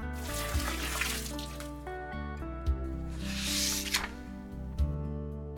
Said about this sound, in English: She filled Bunyip's bowl with water.